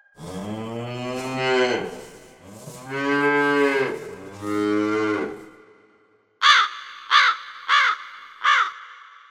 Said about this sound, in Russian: Какой звук был лишним? Голос коровы, ведь она не птица.